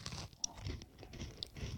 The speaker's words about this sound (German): Es knirscht mehr beim Essen.